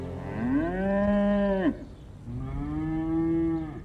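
A cow moos twice in long, drawn-out calls, the first rising and breaking off sharply, the second steadier; loud, with no voices.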